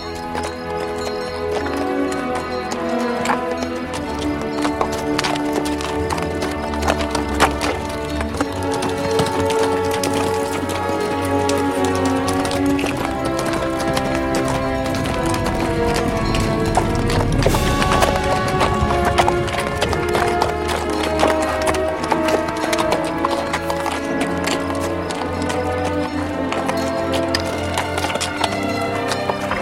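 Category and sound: animal, horse hooves clip-clopping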